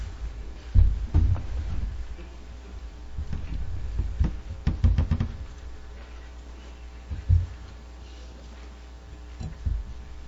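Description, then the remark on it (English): Someone settles into a chair: a series of soft, irregular thumps and bumps with light rustling and creaking, the heaviest knocks coming early and then tapering into occasional shifts. “I'm just getting in my chair.”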